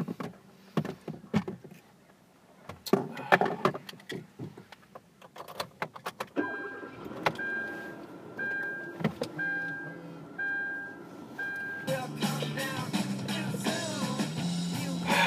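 Inside a car: clattering clicks and thumps like keys and a door, then a low hum with a repeating high chime, before a broader engine-like rumble swells near the end. No one speaks.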